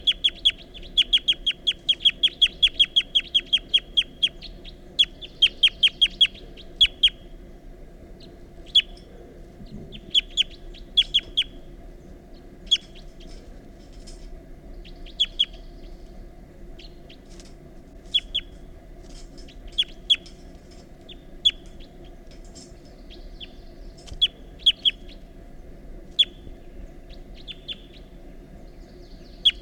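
Rapid, repeated high-pitched flight calls of bird 354, short sharp notes in quick bursts that are densest early on and then come in looser clusters, heard over a steady low background hum.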